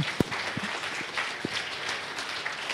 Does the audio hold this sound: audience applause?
yes